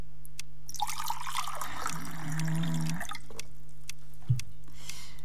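A short splash of a very little water being poured, trickling for about two seconds over a low steady hum, followed by a soft thud and a few faint clicks. No one speaks.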